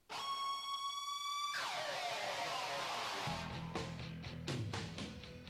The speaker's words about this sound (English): That, of course, is the siren screech of Bret Hart and the entire Hart family. Instantly, yeah, yeah. So that was one of my favorites as a kid, was just that initial guitar. Like, I love that.